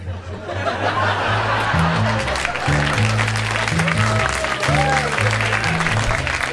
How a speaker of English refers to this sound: I need that sporadic applause on the CD, boy. That applause will be duplicated. It's gonna be after every joke.